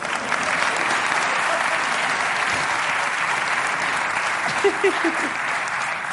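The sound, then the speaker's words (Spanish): Sustained audience applause fills the whole stretch, a dense even wash of many hands clapping at steady loudness, with a few faint voices briefly rising near the end. “Un aplauso”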